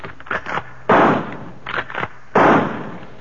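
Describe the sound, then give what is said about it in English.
Two loud rifle shots in the jungle crack out about a second and a half apart, each trailing off in a rumbling echo, with a few softer bursts of noise scattered between them. “It's not afraid of rifle fire.”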